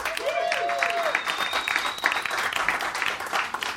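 Sustained, dense audience applause lasting about four seconds at steady volume, with a brief whistle near the start and a thin, high whistle carrying over the clapping.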